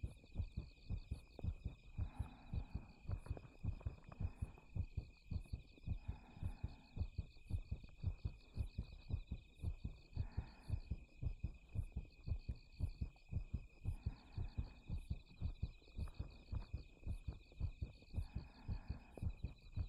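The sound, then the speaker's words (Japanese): A loud heartbeat thumps in a steady, even rhythm throughout, with soft breathy swells every few seconds and a faint high-pitched hiss in the background. “心臓の音、ちょっと大きいですかね。”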